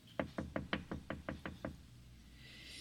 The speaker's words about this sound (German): Horch, mein Geliebter, er klopft.